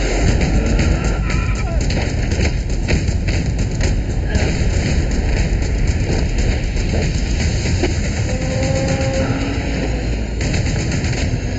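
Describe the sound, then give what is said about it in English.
A loud, dense action soundtrack from the trailer for the film The Raid 2: gunfire and heavy fight impacts, thuds and bangs piling over a constant rumbling roar, with brief voice-like cries surfacing near the end. “You just need like bullet noises and like flesh smacking into other flesh and maybe some screaming.”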